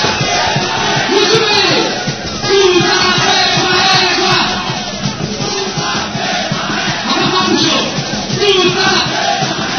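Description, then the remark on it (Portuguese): A partying crowd shouts its war cry together, loud and sustained, with rising and falling chanted yells repeating in waves over a dense roar of many voices. “A galera acorda, aí ó, o grito de guerra.”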